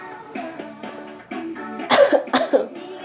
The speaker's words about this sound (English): Oh god, sorry. Didn't mean to just cough right there.